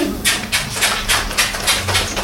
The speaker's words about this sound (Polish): Buziaczki sobie wysyłamy.